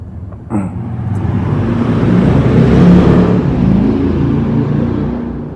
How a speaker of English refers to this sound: Noisy motorbike. He could repair his silence and maybe took it off. They like that, they have to make a big noise and disturb everyone.